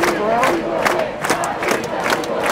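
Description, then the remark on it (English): A large protest crowd at dusk, at the front line of the protest, shouts and chants together, a dense wall of raised voices with repeated rhythmic cries rising over the continuous roar, loud throughout. “Time to get everything down to the final stop on the supply chain, the front line of the protest.”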